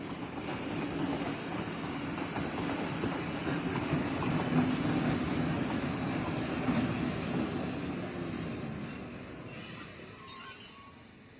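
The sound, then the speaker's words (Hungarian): A fast train rumbles and clatters along the tracks with a steady, dense roar, wheels squealing faintly, swelling slightly mid-way and easing off near the end, with no voices. “Itt kell felszállni a gyors vasútra.”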